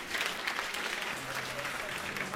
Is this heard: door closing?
no